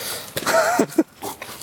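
A dog out on a walk sniffs in a few quick bursts of breathy snuffling, with short nasal snorts between them, faint outdoor background noise around.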